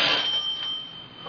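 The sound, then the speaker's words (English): A doorbell rings with a single sustained, steady metallic tone that holds for just over a second, moderately loud, with no talking over it. “Doorbell's ringing, dear.”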